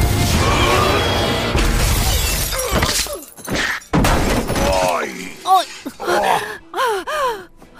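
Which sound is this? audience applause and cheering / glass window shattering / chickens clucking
glass window shattering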